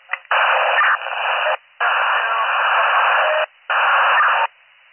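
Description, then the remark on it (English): Harsh radio static comes through in three loud, sustained bursts with brief silent breaks between them, narrow and tinny like a scanner channel, with no voices audible. “I got 72, but the rest is static.”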